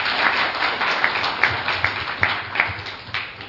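An audience at a lecture applauds the representative director of the publisher Miraisha, a dense, steady patter of many hands clapping at once, with a few sharper individual claps standing out over the continuous wash.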